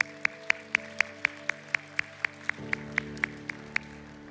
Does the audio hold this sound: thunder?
no